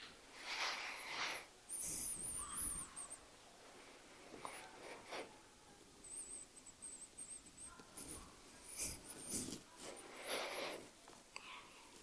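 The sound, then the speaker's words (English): A group of people with eyes closed take several slow, deep breaths for 10 seconds, drawn in and let out through the nose and mouth, soft and airy, spaced a few seconds apart, with faint rustling in otherwise quiet surroundings. “10 seconds of focused breathing”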